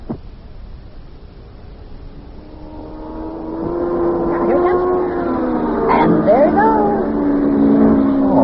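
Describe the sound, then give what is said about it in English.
A high-revving race car engine drones and builds steadily louder, its whining pitch sweeping and swooping as Yuki's car comes around the bend toward the listener and speeds past on the track. “Boy, I'll bet he's making over 100 miles an hour already.”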